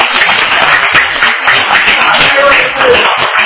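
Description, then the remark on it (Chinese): A class of schoolchildren claps together to welcome three visiting guests, a dense, steady patter of many hands that stays loud and even throughout, with no single claps standing out and no clear talking over it. “来，我们今天老师也带，特别带了三位这个哈，来，我们来拍手欢迎他们，好不好？”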